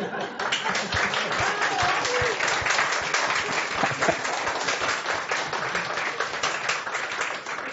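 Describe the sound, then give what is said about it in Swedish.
An audience applauds steadily for several seconds, a dense, even wash of many hands clapping at a constant loudness with no one speaking over it. “Nej, men det är väl du applåderar sen får man.”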